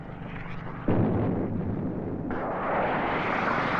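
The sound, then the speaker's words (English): A sudden loud boom cuts in as a personnel carrier is hit by a missile, followed by a sustained rumbling roar that swells again a moment later, with no voices. “Here, a personnel carrier is hit.”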